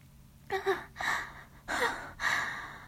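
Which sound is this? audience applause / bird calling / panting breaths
panting breaths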